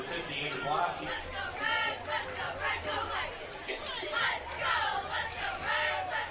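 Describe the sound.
East Jackson fans across the field of a football game give scattered applause after a first down, mixed with a steady wash of chatter and murmuring voices across the whole stretch, with a low hum underneath.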